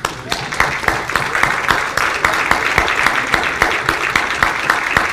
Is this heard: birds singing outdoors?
no